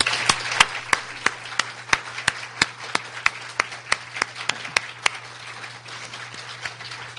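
Audience applause, given at a speaker's request to acknowledge a woman's leadership, of sharp, crisp handclaps in a quick, fairly even rhythm over a low background hum, thinning out and fading after about five seconds. No one speaks.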